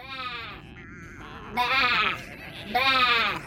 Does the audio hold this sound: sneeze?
no